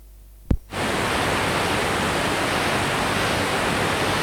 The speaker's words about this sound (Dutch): Dat ding is kapot. Nou loopt de hele studio vol water.